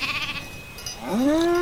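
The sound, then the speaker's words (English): A sheep lets out a loud, wavering bleat that rises and holds, following a softer bleat at the start, with open outdoor ambience and no talking. “And sheep, apparently.”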